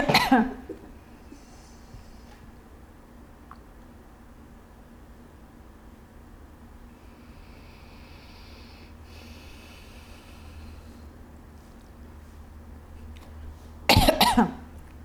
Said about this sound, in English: Yeah, and I have the cough. Just make it more interesting.